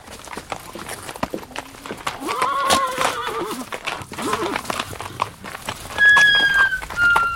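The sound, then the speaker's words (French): Horses in a stable whinny with rising, wavering neighs while hooves thud and shuffle on a hard floor, with a few sharp high squeals near the end. “Montrez-moi votre écurie.”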